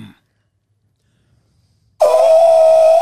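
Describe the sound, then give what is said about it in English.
After nearly two seconds of silence, a person abruptly lets out a loud, sustained, brassy trumpeting cry imitating an elephant. It holds one steady, slightly rising pitch for about a second. “I used to be able to make a really good elephant noise, but I can't do it as good you now.”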